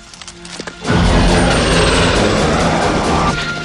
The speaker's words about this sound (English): Rambo spins round, hearing the chopper.